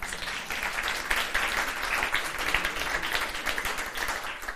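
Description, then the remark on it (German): A crowd applauds steadily, a dense wash of many hands clapping at once, sustained at an even level for several seconds without any voices standing out. “Ein Applaus bitte dafür.”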